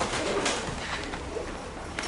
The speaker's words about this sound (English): As you're watching this, you think, oh, how awful. This is filthy and dirty, and there are pigeons flying around.